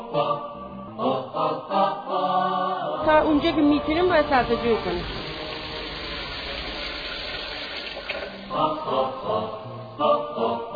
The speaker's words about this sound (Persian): این شیر را اینجا باز می کنید، آب شر شر می رد تو چاه، این احتیاط داره.